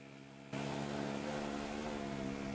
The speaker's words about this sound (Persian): کربلایی بر میگرده و ترک موتور سوار میشه و به راهی که بچه ها گفتن میرن.